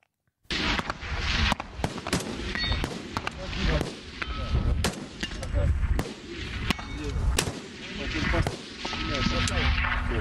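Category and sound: impact, sniper rifle shots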